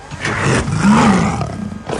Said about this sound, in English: I can almost understand the lion growl because it's very intimidating.